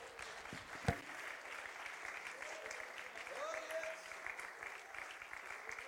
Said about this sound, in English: Oh, can we clap our hands on the Lord?